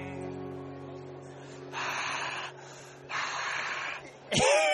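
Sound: heavy breathing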